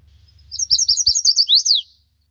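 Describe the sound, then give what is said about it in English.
A chestnut-sided warbler sings one bright, rapid song: a run of high sweet notes that ends in an emphatic downslurred flourish, clear over faint low rumble. “Here's a chestnut-sided warbler.”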